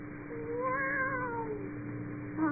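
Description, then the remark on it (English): A single drawn-out meow, rising and then falling in pitch over about two seconds, performed by a human voice imitating a cat as a signal to Tom Sawyer's friend Huck at night in a yard, fairly quiet with no other talk. “Meow.”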